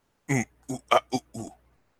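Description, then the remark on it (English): A person makes five short, throaty grunts in quick succession, fairly loud, each a brief voiced burst with small pauses between, a bit like a pig's oinks. “Oh, just adding your own grunts.”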